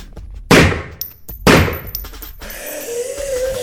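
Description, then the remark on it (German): Two loud, sharp gunshots ring out about a second apart, each bursting across the whole range and trailing off, followed by a softer hiss with a faint steady whine. “Schüsse.”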